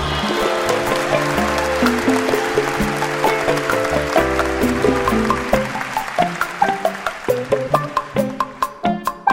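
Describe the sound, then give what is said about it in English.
An audience applauds as Caltech seismologist Lucy Jones is welcomed, over upbeat music, a steady wash of clapping blended with sustained chords, the music's sharp accented hits growing more prominent toward the end. “Okay, Lucy, it was so interesting to me that people clapped for earthquakes.”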